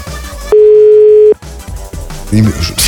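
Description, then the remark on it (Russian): A single steady ringback tone of an outgoing phone call, loud, sounds for almost a second. Busy background noise and a voice are heard before and after it. “Давайте, давайте, подходите там к телефону, мурашки.”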